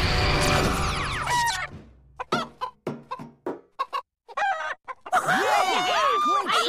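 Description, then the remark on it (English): Several chickens cluck and squawk, starting as a dense flurry, breaking into short separate clucks, then rising again into a busy, overlapping chorus of agitated calls. “Something's about to switch places with a chicken.”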